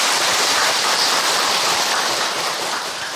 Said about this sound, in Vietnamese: Cứ cho một tràng pháo tay như thế đã.